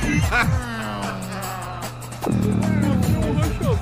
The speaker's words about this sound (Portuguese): Aí eu ponho uma vinheta qualquer.